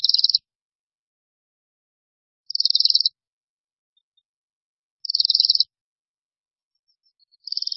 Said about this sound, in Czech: A tak pokud uvidíte v zimě hejno letících špačků, poslouchejte, zda se neozývá tiché, nenápadné cvrčení. V tom případě totiž vidíte Brkoslavy.